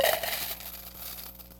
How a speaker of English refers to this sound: And these collection boxes amplified the sound of coins being dropped in. Imagine Imagine a lot of coins being dropped into a collection box.